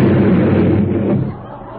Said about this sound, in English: Why are you all running away? Hey, who's lighting all these firecrackers? That's me, officer. I'm the one.